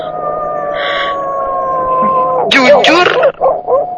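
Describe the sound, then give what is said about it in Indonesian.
A neighbor's dog howls in one long, steady, slightly falling wail for a couple of seconds, moderately loud, before a person begins speaking as it fades. “Bahkan samar-samar, aku bisa mendengar anjing tetangga aku melolong.”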